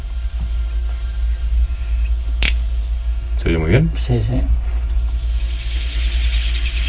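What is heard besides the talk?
bird contact call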